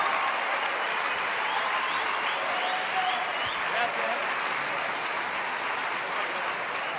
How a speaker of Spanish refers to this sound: Hoy tenemos el placer de tenerlos con nosotros y recibimos a Dante Gebel con un fuerte aplauso. Bienvenido, Dante Gebel.